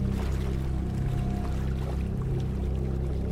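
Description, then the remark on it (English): Warm, waist-deep water filled with black soot and with a slight current sloshes and churns steadily as someone wades through it, a continuous low swirling with soft irregular splashes and no talking. “You wade into the water.”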